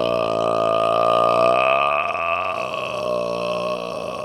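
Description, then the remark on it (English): A single long, loud burp rumbles on for several seconds, with a steady tone that wavers and roughens toward the end. No one speaks. “So if you must burp, cover your mouth. Say excuse me when your mouth says”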